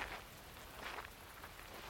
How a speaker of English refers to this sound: Since their escape, it's rained non-stop.